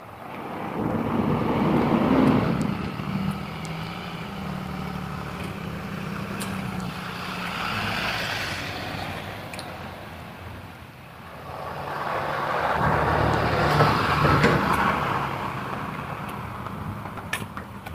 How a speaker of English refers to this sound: School bus up here.